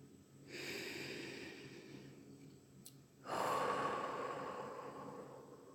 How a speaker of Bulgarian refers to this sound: Направете няколко вдишвания през носа и издишвания през устата, за да се успокоите. Може да е ползотворно за вас да издадете звук като отсвистене на вятър, докато издишате и въздухът се отделя от тялото ви.